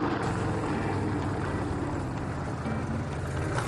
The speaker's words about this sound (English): Gentlemen, you may start your engines.